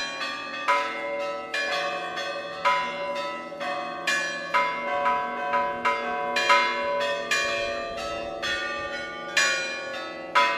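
A peal of 17 centuries-old Russian bronze church bells rings continuously from the tower at Lowell House, a Harvard residence hall. The bells range from about football size to almost 9 feet wide and nearly 13 tons. Many overlapping strikes of different pitches sound in a lively, irregular rhythm, each leaving a long shimmering ring. No voices.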